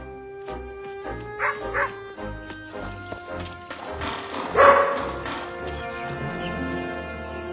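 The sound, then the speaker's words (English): The dog Santa's Little Helper barks and yips in a few short, sharp bursts, with a louder outburst near the end, over a steady tonal musical background. “Hey, boy, come here. You're a good dog.”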